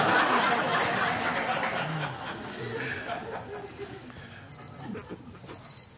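A small new alarm clock rings with a high, rapid electronic beeping, while a crowd of people murmurs and breaks into scattered chuckles around it.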